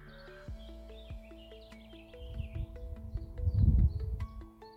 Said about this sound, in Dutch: Ik hoort hier alleen vogeltjes. De natuur.